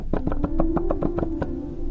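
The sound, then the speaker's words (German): A rapid series of about eight sharp knocking pops from pipe organ key action, with a register drawn so the pipes sound, each pop landing over a sustained organ pipe tone held at a steady pitch beneath them; no voices. “um mal zu demonstrieren, wie die Geräusche sind, bevor der erste Ton erklingt.”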